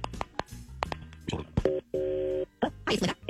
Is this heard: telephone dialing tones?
yes